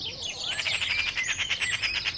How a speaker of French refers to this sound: Oh, écoute ! Tu entends cet oiseau ? C'est une pie.